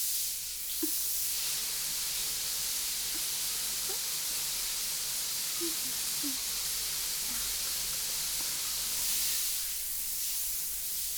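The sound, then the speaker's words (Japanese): Steady shower spray being poured over someone before a shampoo hisses continuously for several seconds, a broad, even rush of falling water with a few faint soft splashes and drips mixed in, no voices present. “よし、それじゃあまずはシャワーからね。”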